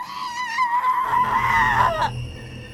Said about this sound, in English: Farther along in the river that followed, death and its parade of lost souls, screaming in agony, devils laughed and jumped.